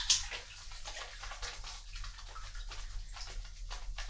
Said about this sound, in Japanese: 泡を立てている。